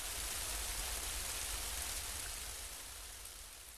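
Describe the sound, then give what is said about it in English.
Steady rain pours down in a dense, even hiss with no pauses, fairly soft overall and easing slightly toward the end. No voices are heard. “They share a passionate kiss as rain comes down.”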